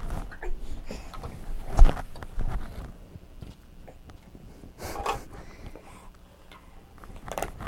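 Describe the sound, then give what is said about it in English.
A baby boy chews and gnaws on a board book, making soft, wet, irregular clicks and scrapes with a few sharper taps, no talking. “No, let's not be chewing on that.”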